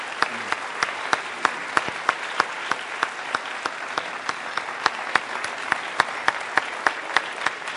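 A room full of people claps steadily, with sharp, evenly spaced individual claps standing out over a dense wash of applause at moderate distance, no talking.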